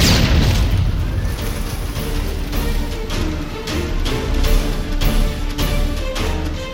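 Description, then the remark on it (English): The gas tank of a silver Mercedes explodes after the car hits the concrete upright of a pedestrian tunnel: a loud, sustained explosion roars on with heavy low rumble and repeated sharp bursts crackling through it, a fiery blast that keeps churning for several seconds with no voices. “Lavin's silver Mercedes hits the concrete upright of a pedestrian tunnel. The gas tank explodes.”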